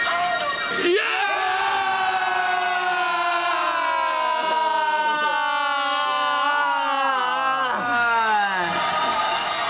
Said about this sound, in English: And that was EO Under 30s screaming match. Good start in the morning.